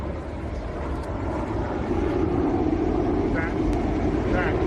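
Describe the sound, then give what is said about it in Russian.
Cruise missiles roar overhead during an air raid in a steady, loud engine drone that swells slightly and holds for several seconds, a broad rushing rumble filling the air. “Интересно, это были крылатые ракеты.”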